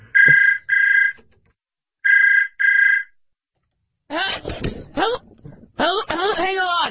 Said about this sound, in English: Somebody's calling us? Just pick up the phone. Kevin, come on. Also, turn the ringer off.